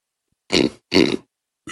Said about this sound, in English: He just burps into the microphone after.